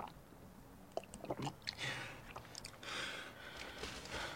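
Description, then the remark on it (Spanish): Wet mouth sounds as a man sitting in a bathtub gulps down a whole glass of drink in one go, in quick swallows, with soft slurps and throat clicks over a few seconds and no talking. “Toma el vaso y bebe todo el contenido de un sorbo.”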